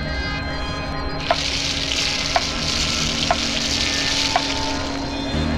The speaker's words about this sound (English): Bacon frying. Listen to the sound of the clock ticking and the bacon frying.